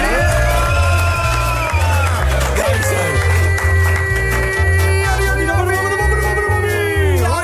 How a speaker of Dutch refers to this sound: Mag ik een luid applaus